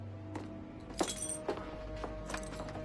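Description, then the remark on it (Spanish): Broken glass shards clink as they're gathered up, a handful of light, sharp taps scattered irregularly over a few seconds against a low steady hum, fairly quiet. “En cuanto mamá recoja los cristales, colocamos las fotos en su sitio.”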